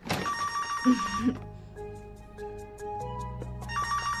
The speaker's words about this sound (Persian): چرا هیچ کس جواب تلفن رو نمیده؟